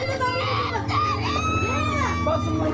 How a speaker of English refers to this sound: This boy is crying because he's terrified of the water and he's going to have to wade through it a bit to reach a dry spot.